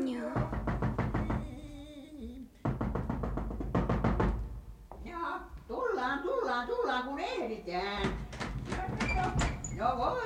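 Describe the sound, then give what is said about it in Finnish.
Bursts of rapid knocking on a door, repeated several times in quick rhythmic runs, mixed with voices talking over and between the knocks. “Minä aion nyt koputtaa ovelle.”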